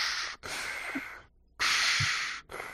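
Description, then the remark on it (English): A voice imitates heavy, hissing respirator breathing through a black helmet, as of a figure walking slowly down a hallway: two long, loud rasping breaths, an inhale and an exhale, separated by short pauses, with no talking. “Meanwhile, Daldane has acquired a breathing problem and a black helmet and is just walking down the hallway slowly going...”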